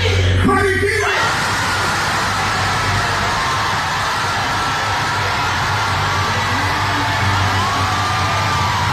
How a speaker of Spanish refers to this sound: Y esos gritos que estaban escuchando fue anoche el pueblo celebrando el regreso de Maripili a la Casa de los Famosos.